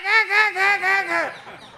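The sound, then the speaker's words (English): A man's voice imitates a parrot's frightened squawking when a cat comes: a rapid run of about five harsh, nasal, strained, loud cries, which breaks off abruptly and leaves a short quiet tail. “But when the cat comes, what does he go?”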